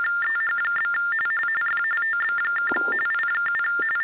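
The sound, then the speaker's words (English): A phone rings with an electronic ringtone, two high beeping tones alternating in a steady, warbling pattern that repeats for the whole clip, with no voices. “Whose phone is that?”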